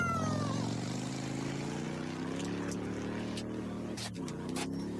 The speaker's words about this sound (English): This is Bellamy on a motorbike.